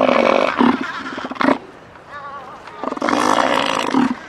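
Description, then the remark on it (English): A very big elephant seal, about 1,500 pounds and the length of a small car, hauled out on the rocky beach of a very small island just off the west coast of Antarctica, bellows loudly: two long, throaty, pulsing roars separated by a short pause, with no other sounds around them. “Just off the west coast of Antarctica, a very big elephant seal is hauled out on a very small island.”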